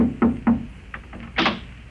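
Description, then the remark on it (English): The landlady knocks on the door: two firm knocks on a wooden door, evenly spaced, followed by a few softer taps and a brief rustling clatter before it goes quiet. “I was about to take off after it when there was a knock on my door.”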